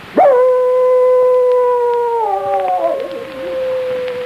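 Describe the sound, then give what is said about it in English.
A dog, Ricky, lets out a single long, loud howl at the full moon after nosing open the door of a cabin, holding a steady tone before dipping lower and wavering toward the end. “One evening, Ricky nosed open the door of the cabin and howled at the full moon.”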